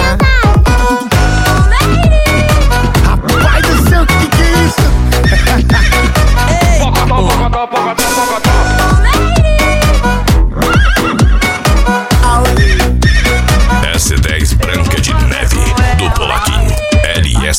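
Horse neighing, heard as repeated whinnying bursts woven into a loud, driving music track with heavy bass that fills the whole stretch.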